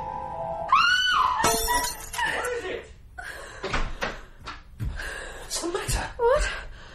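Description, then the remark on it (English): A woman screams sharply, then drops a drinking glass, which smashes with a bright, scattering crash. Breathy gasps and vocal sounds follow. “Oh, the glass. I dropped it.”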